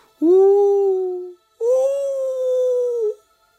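A dog howls twice, each a long, loud, steady wail that rises at the start and holds its pitch. There is a short pause between the howls, and no other sound is heard.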